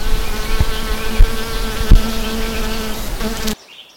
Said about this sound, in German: Und hier sind auch viele Insekten. Aufpassen, aufpassen. Eine Biene.